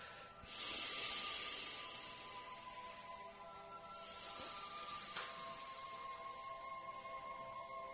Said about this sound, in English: Then on an exhale, please. And continue breathing out deeply.